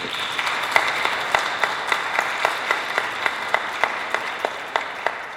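An audience applauds the absent author Franca Batic of the work titled Speranza, a dense wash of many hands clapping with a few sharper, louder claps standing out in a loose rhythm, sustained evenly without voices.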